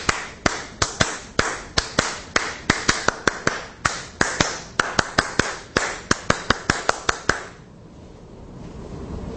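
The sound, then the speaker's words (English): Hands clap out a quick, syncopated rhythm pattern, the whole pattern one time through, sharp bright claps in uneven groupings for about seven seconds, then stopping, leaving a faint low hiss. “I simply clap the whole pattern one time. Let's clap it together.”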